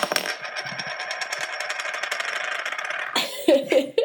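A San Pellegrino soda bottle is opened, releasing a steady, crackling fizz that hisses for about three seconds, then cuts off as voices and laughter break in.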